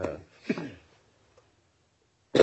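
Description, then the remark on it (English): A few harsh coughs: two rough bursts in quick succession, then a brief quiet stretch before one more cough cuts in at the end. “I am so sorry. No, Mr. Lesberg. I have cough drops if you want.”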